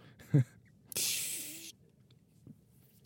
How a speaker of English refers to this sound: Okay. Anyway, before I get into the weeds here, I'm gonna put some spray on this thing.